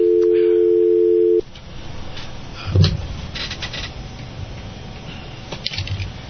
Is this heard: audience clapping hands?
no